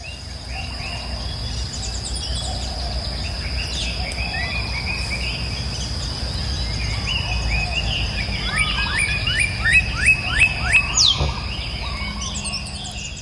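Birds chirping and twittering outdoors, several calls overlapping, with a quick run of sharp repeated chirps near the end over a steady insect-like buzz in the background.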